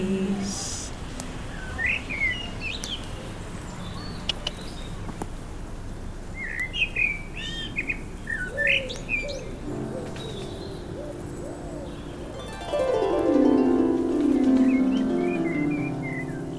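Several birds chirp and trill at sunrise in Foley Woods after the campfire has died, their calls scattered, with a low hum of ambience and a louder rising tonal sound swelling near the end.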